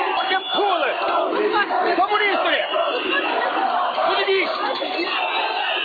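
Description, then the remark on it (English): A dense crowd of demonstrators in Moldova shouts anti-communist slogans while storming the parliament building to protest alleged election fraud; many voices, loud and sustained, with overlapping cries and yells rising above a continuous roar of people. “Shouting anti-communist slogans, demonstrators stormed the parliament building and the offices of President Vladimir Voronin to protest alleged election fraud.”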